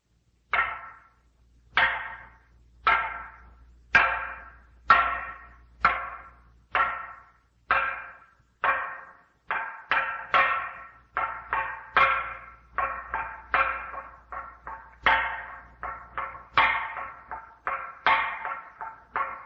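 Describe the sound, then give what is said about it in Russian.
A wooden semantron on Mount Athos beaten with a mallet to call the faithful to services: loud, hollow knocks ring out alone, starting at a steady spaced pace, then quickening into rapid, irregular clusters of strikes with short resonant decays. “Било — это деревянная или металлическая доска, ударами в которую созывались верующие к богослужениям в те времена, когда еще не употреблялись колокола.”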